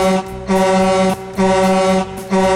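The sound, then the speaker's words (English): Four loud, brassy horn honks in quick succession, each a sustained harmonic blare separated by brief gaps, the first and last cut shorter. No voices. “So I give it four honks.”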